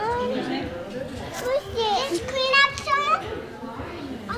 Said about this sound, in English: Toddlers and preschoolers tumble across a soft play area or dig in the sand pit.